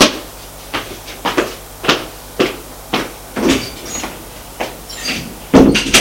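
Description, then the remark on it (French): A series of wooden clunks and knocks as a door is opened and shut several times, fairly loud, with a steady low hum underneath and no talking. “Elle se lève et sort de la pièce.”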